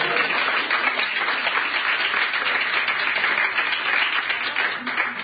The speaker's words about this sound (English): And if you believe that, give God a hand clap.